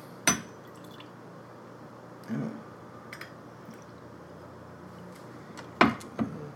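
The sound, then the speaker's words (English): Nika is poured from a jigger: a few sharp glassy clinks and brief liquid splashes, spaced irregularly over a faint steady background, with the loudest clink near the end. “Some Nika just poured in my pants.”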